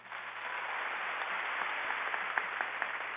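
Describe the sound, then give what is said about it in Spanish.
An audience in Colombia claps steadily for about three seconds, a dense, even patter of many hands at a fairly soft level with a few sharper claps standing out. No one speaks. “Démosle un aplauso.”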